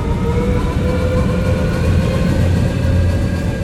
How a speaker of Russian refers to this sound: Машина взвыла. Время было словно кинолента, пущенная обратным ходом.